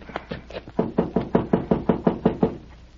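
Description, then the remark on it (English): Someone knocks on Captain Gardner's office door, about a dozen firm, evenly spaced raps in a quick steady rhythm lasting a few seconds, with no voices. “He isn't here. We'll knock again.”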